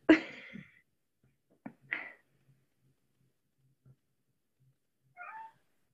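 A cat meows several times, a loud drawn-out cry first, then a short chirp, another meow and a softer one after a pause, with quiet low purring or background noise between.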